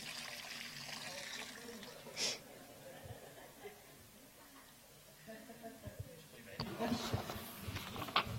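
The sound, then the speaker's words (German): A small, quiet trickle of water pours steadily, like a watering can over flowers, with soft splashes picking up toward the end and faint murmuring in the background. “Wenig Wasser. Das ist der Umstand wegen. Blumen.”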